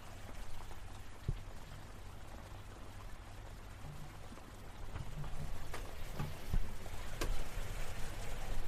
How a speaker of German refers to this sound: Hört ihr, oder? Den Regen? Es raschelt ganz leise. Es hat die ganze Nacht ganz leise geraschelt.